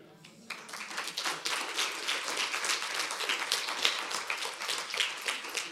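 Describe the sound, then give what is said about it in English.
Audience applause at the end of a talk breaks out and sustains, a dense wash of many hands clapping at a steady level, loud throughout. “This is my ploy to get applause at the end of my talks.”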